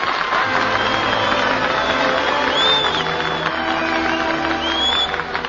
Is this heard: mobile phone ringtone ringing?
no